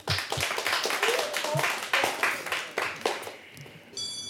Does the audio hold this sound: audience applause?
yes